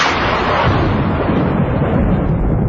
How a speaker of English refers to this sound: One click of the switch, a crack of the thunder, and you're gone.